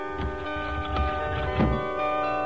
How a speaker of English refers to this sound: Those bells. It must be Christmas Day. Christmas Day. I wonder if it really is.